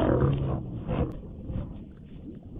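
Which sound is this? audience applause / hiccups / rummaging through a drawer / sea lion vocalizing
sea lion vocalizing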